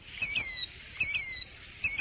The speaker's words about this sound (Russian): Ах, вот кто это! Незнакомая мне птица. Здравствуй, птица! Я тебя увидала. Скажи, это ты сейчас кричала?